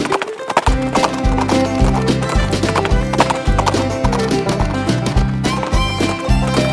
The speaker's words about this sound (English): Is your horse fast or slow? That sounds like a really cool horse. Let's go ride.